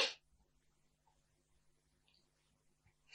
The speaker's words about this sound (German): verzeiht, ich muss niesen.